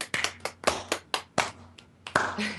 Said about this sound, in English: What a disjunct clap.